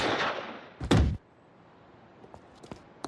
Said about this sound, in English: And then immediately heard a gunfire, and her husband had been shot.